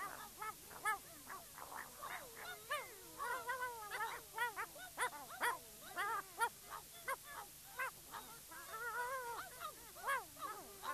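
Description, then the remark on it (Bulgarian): Dogs whimpering and yelping in a busy, overlapping chorus of high, whiny cries and short barks, fairly loud throughout, with no one talking. “Добро, куче. Само не ни изяждай.”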